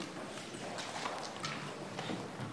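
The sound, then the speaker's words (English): The hooves of a donkey named Philip clip-clop in a steady walking rhythm as it leaves during a church service, a series of hollow knocks over a faint background hum, with no one talking. “Bye-bye, Donkey Philip.”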